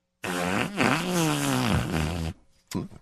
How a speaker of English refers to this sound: You know, this is hardly breaking news, but from time to time, everybody has to let loose with a fart. Yeah. What does that sound like?